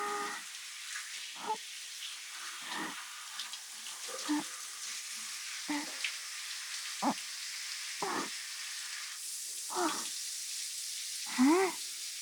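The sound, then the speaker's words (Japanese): A steady hiss of spraying shower water runs throughout, broken every second or so by brief splashy bursts as the water hits skin and rinses soap foam off the left arm. “よし、泡は全部流れましたね。”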